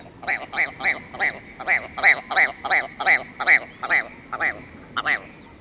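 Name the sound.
ptarmigan call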